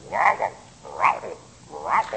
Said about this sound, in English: We had a pond out back with big bullfrogs in it and would sing you to sleep at night.